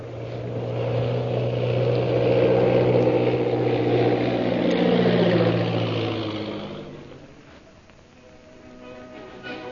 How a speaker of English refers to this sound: And that night, after landing his plane at the Purple Triangle camp, situated in the hills bordering the Gobi Desert, Lin Fu takes his captive, Lin Chalmers, to Derek Bluger.